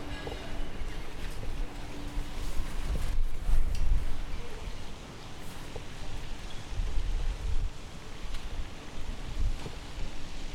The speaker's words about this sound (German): Bisschen windig.